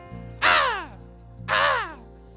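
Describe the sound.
A voice imitates a seagull with two loud, harsh squawks about a second apart, each sliding downward in pitch, over a low steady hum.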